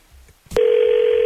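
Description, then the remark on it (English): A sharp click as a phone handset is picked up to make a call, followed immediately by a steady, continuous telephone dial tone that holds at a constant loud level. No voices are present. “Let's grab the phone here and call and find out what's going on.”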